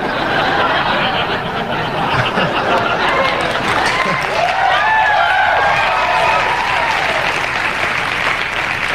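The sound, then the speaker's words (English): A crowd claps steadily throughout, with mixed murmurs, laughter and a few whoops rising over the dense, continuous applause, reacting to a joke about O.J. Simpson. “The crowd is torn.”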